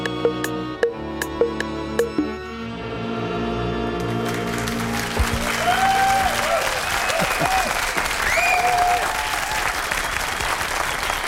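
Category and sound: crowd, studio audience applause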